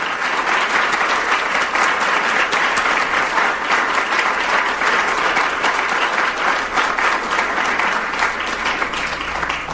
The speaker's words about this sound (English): Please give my family a round of applause.